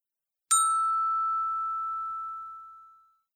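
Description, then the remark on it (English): A single clear clock chime strikes once, its bright metallic tone ringing out and slowly fading over about three seconds, with no other sounds around it. “Then the chimes started clanging.”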